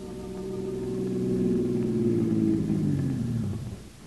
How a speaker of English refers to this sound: As our story opens, Jack Arnold's car is drawing up in front of the nightclub.